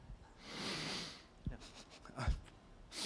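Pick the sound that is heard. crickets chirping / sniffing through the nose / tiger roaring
sniffing through the nose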